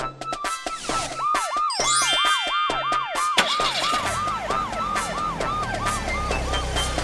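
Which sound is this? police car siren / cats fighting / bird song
police car siren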